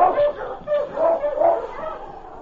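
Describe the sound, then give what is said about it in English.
Husky sled dogs, including one called King, bark and yip in quick, overlapping bursts as they are urged on in intense cold, a busy chorus of mid-pitched calls that rises and falls without a break for a couple of seconds. “All right, on King! On, you husky!”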